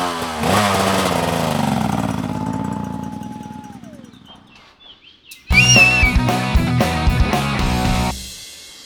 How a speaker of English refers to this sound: I'm going to have to jump on a motorcycle to catch up with the competitors, so I'll catch you in a minute.